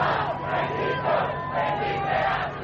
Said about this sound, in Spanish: Horas antes, Francisco fue recibido en suelo estadounidense entre gritos y aplausos.